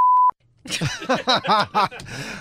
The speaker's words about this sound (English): I have no other word but that one. I apologize. That's all right. We beeped it.